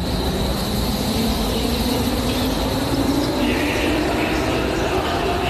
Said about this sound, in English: Standing in Berlin's central train station, where I stood 2.5 years ago, watching trains arrive, packed full of refugees,